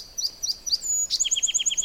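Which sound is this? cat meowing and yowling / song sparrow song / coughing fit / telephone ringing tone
song sparrow song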